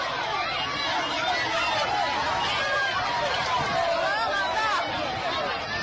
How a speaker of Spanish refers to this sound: Y en Venezuela crecen las protestas contra Nicolás Maduro. Durante una visita a Isla Margarita ha sido increpado por manifestantes y ha tenido que salir corriendo junto a sus escoltas. Este era el momento.